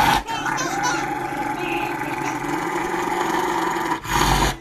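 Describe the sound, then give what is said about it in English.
A dog growls low and steadily, up close and loud, the rumbling snarl running almost continuously for several seconds with a short break near the end. “Please tell me that dog does not bite his owner.”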